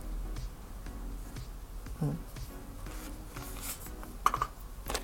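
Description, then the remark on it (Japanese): Rustling and soft crinkling of paper flyers being gathered into a pile to be put in a paper bag and thrown away, with scattered light taps and a sharper burst of handling near the end. “チラシとかもこうまとめて集めて、なんか紙袋に入れて捨てるとかそういう感じですかね。”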